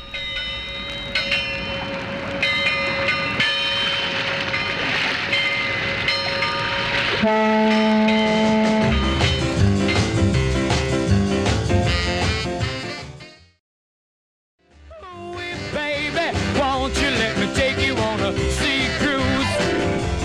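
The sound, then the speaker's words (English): Low, sustained boat-whistle horn blasts sound within a loud, upbeat rock-and-roll recording, a long steady blast giving way to band playing, then a brief silent gap before the music resumes. “Who was responsible for putting those horn blasts in there?”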